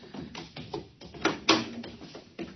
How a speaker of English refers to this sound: Now, help me close the door. Now the bar. We're safe in here for a while.